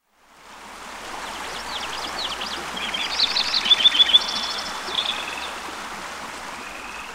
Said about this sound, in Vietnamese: Bạn có nghe tiếng nước chảy của một con suối bắt nguồn từ đỉnh núi gần đây không? Có, tôi có nghe.